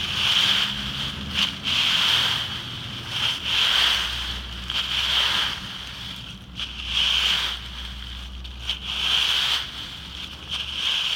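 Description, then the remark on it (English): A rake scratches through dry leaves in a front yard in Honolulu, Hawaii, in steady, repeated strokes, each a hissing, crackly swish about a second apart, over a low, constant background rumble. No one speaks. “That was the sound of me raking leaves in my front yard.”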